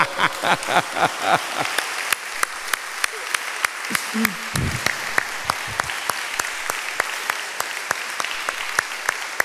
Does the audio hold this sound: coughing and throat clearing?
no